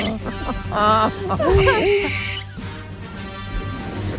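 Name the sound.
barn owl call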